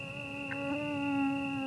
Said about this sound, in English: You'd be hard-pressed to find someone who welcomes the sound of a mosquito drawing near, but, annoyance aside, they're the vectors of all manner of maladies that plague human populations worldwide.